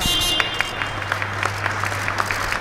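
About 120 employees of electric carmaker Ego in Aachen, lined up in a guard of honour, applaud steadily as the first officially sold car leaves the hall: dense irregular clapping with a low hum underneath and a few sharper claps standing out.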